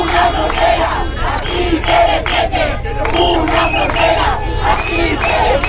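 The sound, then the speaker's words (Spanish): A large crowd at a sit-in protest near the border in Ceuta, with flags of Ceuta and Spain, shouts and chants together, a loud, dense wall of voices sustained throughout with overlapping yells rising and falling. “Esto después de una nueva protesta sentada cerca de la frontera con banderas de Ceuta y de España.”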